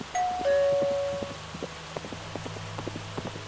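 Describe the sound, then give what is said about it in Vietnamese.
A two-tone doorbell chimes once, clear, its ding-dong tones lingering briefly before fading into a steady patter of rain with scattered drips in the background. “Sau đó không lâu, tiếng chuông cửa lại vang lên.”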